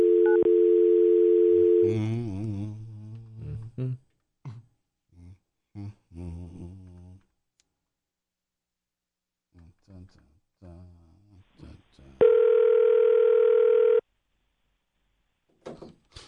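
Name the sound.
telephone ringback tone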